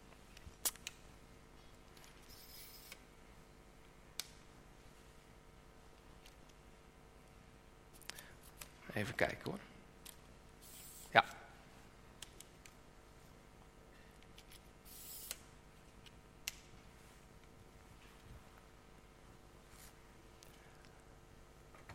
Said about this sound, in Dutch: En mijn vrouw die heeft een statief. Dat wil ik hier neerzetten, zodat u als het ware goed voor u kunt zien.